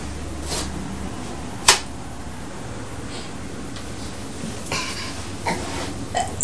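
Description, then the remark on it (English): A single short, sharp sneeze bursts out, followed by a few soft clicks and faint rustling, with no talking. “Bless you.”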